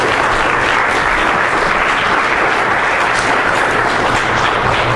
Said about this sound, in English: a round of applause. Thanks for sharing.